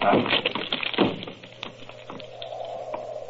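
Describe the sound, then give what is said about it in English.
The locked door of Dr. Roylott's room is forced open: two heavy wooden thuds, followed by scattered knocks and rattles as it gives way, then a low, drawn-out creak. “But Holmes, the door's locked. Break it in.”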